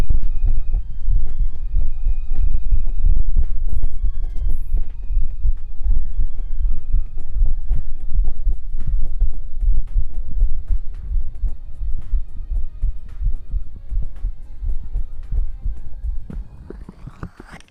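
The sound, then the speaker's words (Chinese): A loud, pounding heartbeat thumps steadily in the low end for the whole stretch, with a faint sustained hum beneath it and no one speaking. “我这心跳的好厉害。”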